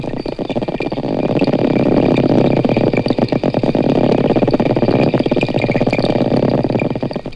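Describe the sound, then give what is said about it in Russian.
Four dolphins in a pool echolocate while investigating a microphone lowered into the water: dense, rapid trains of sharp clicks that speed up and slow down, loud and continuous, with faint high whistles threading through the background. “Сейчас четыре дельфина изучают микрофон, который опустили в бассейн.”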